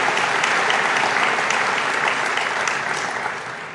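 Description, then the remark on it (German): An audience in Lingen applauds steadily to welcome the town's new citizens and associations, a dense wash of many hands clapping at even loudness that begins to fade slightly near the end. No one speaks over it. “Besonders willkommen, ja, ruhig einen Applaus auch mal unsere Neubürger und Verbände hier.”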